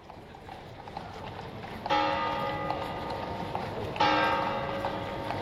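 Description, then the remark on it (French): Two loud church bell strikes ring out with long humming decays over steady outdoor noise outside a church with a crowd gathered, and faint clip-clopping of horses and carts waiting beside the church. “7 à 8 messes le dimanche, foule en dehors de l'église, chevaux et carrioles attendent à côté.”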